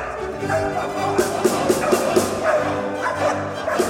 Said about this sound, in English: In the spring, we held an audition. We had around 10 dogs, and we had a real dog trainer from the police helping us select the right dogs. And at this audition, they were showing their skills and can they bark on command